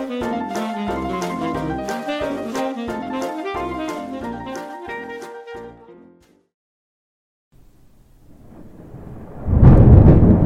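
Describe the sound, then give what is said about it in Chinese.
A short melodic music passage fades into a brief silence, then a deep rumble of spring thunder swells and breaks into a loud crack at the end. “春雷炸响，雷声轰隆隆的打下来，最后一批还在赖床的小懒虫也终于准备要醒过来了。”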